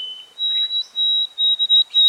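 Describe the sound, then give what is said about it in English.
A white-throated sparrow's short song: a clear, pure whistle that steps up from a lower held note to a higher sustained one, then ends in a few brief repeated notes, with no talking. “This bird sings a simpler, shorter song with an abbreviated ending.”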